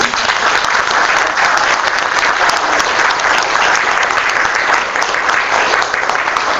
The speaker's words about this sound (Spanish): Primero, un aplauso.